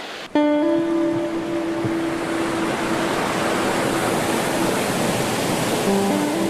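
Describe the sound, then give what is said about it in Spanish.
Steady, loud rushing of river water pouring over rocks in the river that runs past the La Argentina and La Andorra estates, a dense unbroken hiss throughout, with a faint sustained musical tone at the start that fades after a few seconds. “El cadáver se hallaba encallado entre estas rocas pertenecientes al río que pasa por las haciendas La Argentina y La Andorra.”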